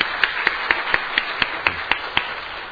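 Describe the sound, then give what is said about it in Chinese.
A church audience applauds together to welcome a family attending for the first time, a dense wash of clapping with one pair of hands beating out a steady, even rhythm of about ten claps. No one speaks. “好，我们鼓掌欢迎”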